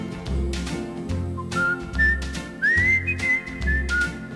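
A person whistles a bright, sliding melody in clear high notes, riding over a steady thumping beat and backing music.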